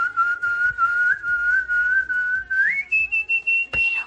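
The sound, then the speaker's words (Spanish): A man whistles a long, trilling warble imitating his canary's song, holding a wavering high tone that jumps higher near the end, loud with no talking. “Este es un oyente haciéndose como hace su canario. Este es el oyente silbando.”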